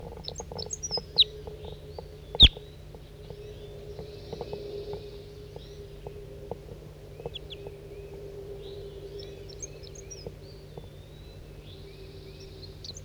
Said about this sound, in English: Stop. Recording bird 4-3.